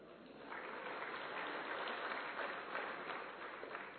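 An audience claps together in a steady, dense patter of many hands, rising after a brief start and holding evenly loud for several seconds with no voices over it.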